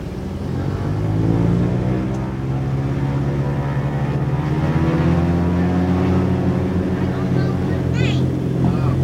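Loud, steady drone of a blimp's engines during takeoff, heard from the swaying passenger cabin, their deep humming tone rising and shifting slightly as they rev up, continuing for the whole stretch with a brief higher whine near the end.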